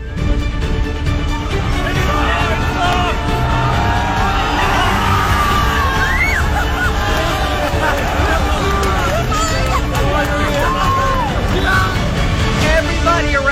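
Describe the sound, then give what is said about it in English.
A large stadium crowd cheers and shouts continuously as a paper airplane thrown from the stands glides down into the goal, a dense wall of voices with scattered whoops and yells rising over the steady roar, loud throughout without any pause. “Like, we're cheering it on and into the goal.”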